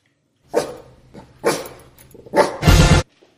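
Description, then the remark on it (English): A dog barking sound effect: a dog barks three times at a steady pace, loud, the last bark longest and harshest, with a short low growly tail between barks and no voices. “It's not actually a Maisie update, but it is a dog story.”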